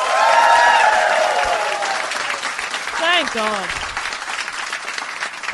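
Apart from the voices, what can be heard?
audience applause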